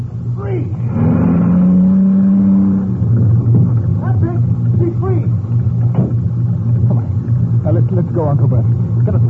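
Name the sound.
car engine revving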